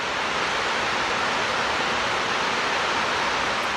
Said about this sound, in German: Beeindruckend! Aus allen Öffnungen der Edertalsperre stürzt das Wasser mit lautem Getöse fast 50 Meter in die Tiefe. Der See ist mit rund 200 Millionen Kubikmetern randvoll gefüllt und läuft über.